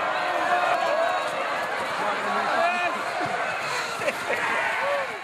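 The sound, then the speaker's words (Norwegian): Steady roar of a sports crowd, many overlapping voices chattering and calling out at once, with a few faint thuds and bouncing-ball knocks poking through the dense murmur. “dette her er jo bare publikumslyd”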